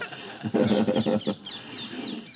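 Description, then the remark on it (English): Parrots calling under trees, in a burst of harsh, chattering squawks, loud and overlapping for about a second, with thinner high-pitched chirps continuing before and after. “from under the desire trees here with the beautiful parrots assisting us in the verbal communication.”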